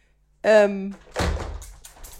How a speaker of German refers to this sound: Warte, ich mach das Fenster zu.